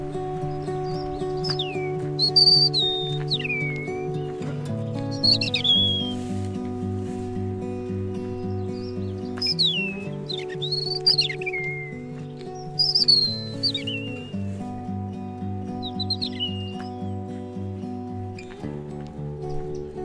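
european robin singing

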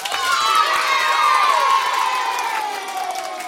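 audience applauding and cheering

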